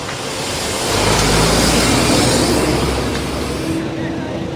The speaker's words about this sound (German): Während sie mit den Wärtern spricht, fahren an uns LKW vorbei, die Unmengen Müll geladen haben.